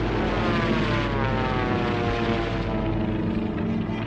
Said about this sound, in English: A distant plane flies alone.